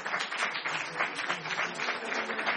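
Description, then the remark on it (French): An audience applauds the event's speakers, many hands clapping together in a dense, even wash of sound that holds at a moderate level throughout. “Applaudissez nos intervenants qui sont là, qui représentent.”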